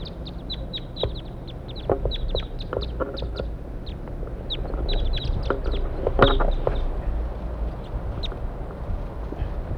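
wild birds calling

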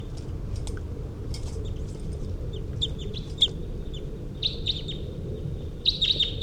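wild birds chirping

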